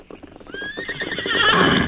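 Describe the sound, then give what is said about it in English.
Horses, a big white stallion and a paint, approach with a quick clip-clop of hooves, then a loud, shrill whinny rises over the trotting, growing fuller toward the end. “Well, a big white stallion in a paint, eh?”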